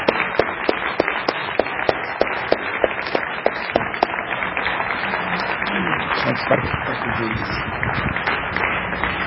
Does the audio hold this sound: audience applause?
yes